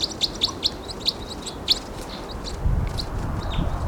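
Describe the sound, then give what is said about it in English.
Wild birds, one seen hanging on the side of a tree, chirp in a quick, irregular string of short, high-pitched tweets over a steady hiss of background noise, with a low rumble rising toward the end. “I see one too, hanging on the side of a tree. Wild bird.”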